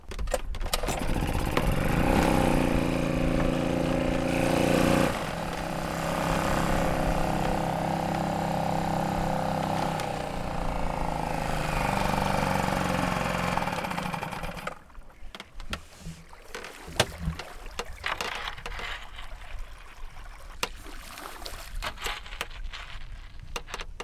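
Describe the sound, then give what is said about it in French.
A boat engine cranks and catches, then runs with a loud, steady drone for several seconds before cutting off, leaving scattered knocks and faint water sounds; the boat is on a current with an east wind blowing. “Excuse-moi, j'allume le moteur.”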